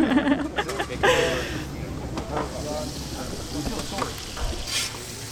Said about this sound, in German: Ich stehe hier am Rande eines riesengroßen Topfes, der sicherlich 2 Meter Durchmesser hat und ein Fassungsvermögen von rund 250 Litern. Hier werden gerade 30 Kilogramm Zwiebeln angebraten für das Mittagessen.